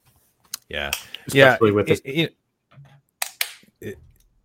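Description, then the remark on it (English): A few sharp pen clicks snap out, scattered irregularly across the moment, with a stretch of voiced sound between them and quiet gaps around. “Oh, the pen. Yeah, you keep clicking that. It's driving me nuts.”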